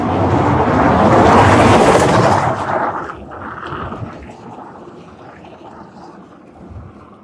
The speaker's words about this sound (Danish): Og der er lige lidt larm fra trafikken indimellem.